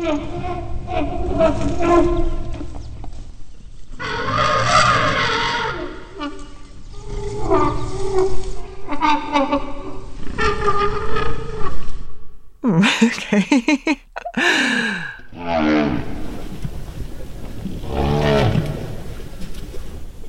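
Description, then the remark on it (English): Low rumbling and groaning calls of an infant elephant trying to eat, with harmonic bellows, followed by a few higher, brassy trumpet-like squeals, loud, with no talking. “He played some elephant noises.”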